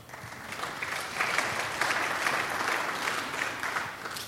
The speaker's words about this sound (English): Only in Seattle would a Frenchman get applause.